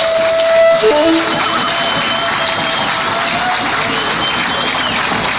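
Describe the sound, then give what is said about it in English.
An audience breaks into a round of applause: dense, steady clapping with some crowd noise that holds at an even loudness for about five seconds, with no speech over it. “A round of applause.”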